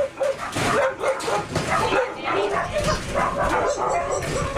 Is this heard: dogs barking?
yes